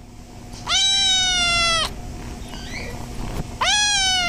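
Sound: kittens meowing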